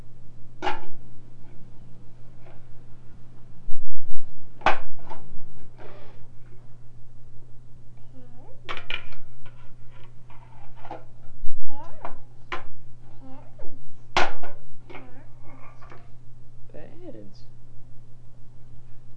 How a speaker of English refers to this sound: are you banging the pan? Are you banging it on your tummy? Are you banging it on your... Yeah, now you're banging it on your tummy. You're banging it on your knee.